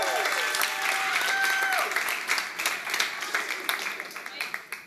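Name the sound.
audience cheering and applause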